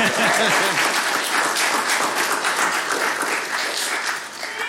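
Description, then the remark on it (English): An audience claps steadily for several seconds, a dense, even patter of many hands that stays loud throughout and eases only slightly at the end, with faint voices mixed in. “I'm just leaving a pause because they're probably going to clap again.”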